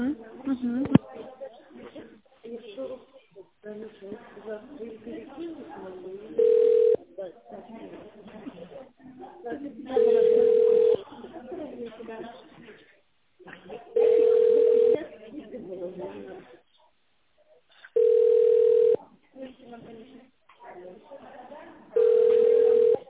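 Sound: telephone ringing tone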